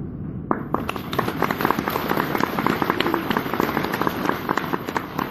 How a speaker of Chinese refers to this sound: 好了，刚刚鼓掌的就算你们大公无私了啊